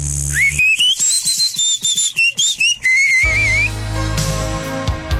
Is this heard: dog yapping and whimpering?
no